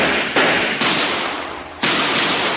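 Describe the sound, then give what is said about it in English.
Three loud gunshots from a .38 revolver go off at uneven intervals, each a sharp crack trailed by a long hissing decay that blurs into the next. “I pulled out my .38, smashed the window.”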